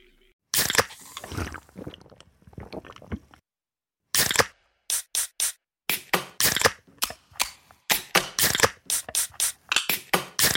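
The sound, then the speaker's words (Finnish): A can of Karhu, a Finnish beer, being opened: a few seconds of dense crackling and crunching, then, after a brief pause, a rapid run of loud, sharp metallic cracks and clicks, with no talking. “Suomalainen äänen avaus. Ja suomalainen olut. Karhu.”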